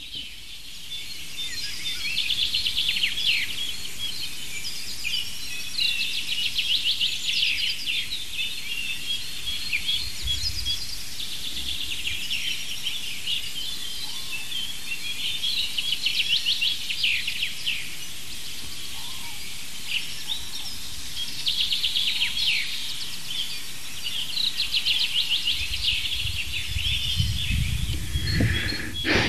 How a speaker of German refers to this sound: Ich hoffe, dass die meisten von euch diesen einen, gerade das Klangbild dominierenden Vogel deutlich raushören konnten, also die eine Vogelart, unseren Buchfink, ein wiederholender Gesang, also immer dieses, also ein kräftiger, schmetternder